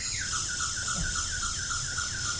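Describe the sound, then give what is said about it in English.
A toy siren from a Meccano police car, mixed in with Lego, wails in a steady, rapidly repeating two-tone pattern, high-pitched and electronic, playing on its own without any talk. “Right, that's off the Meccano police car, isn't it?”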